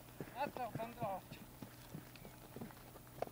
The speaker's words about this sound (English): Oh, yeah, horse is coming directly at us here. At a good clip.